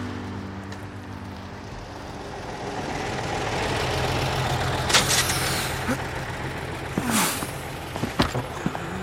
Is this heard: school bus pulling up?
yes